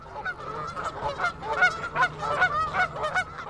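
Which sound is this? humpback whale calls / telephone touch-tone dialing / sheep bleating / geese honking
geese honking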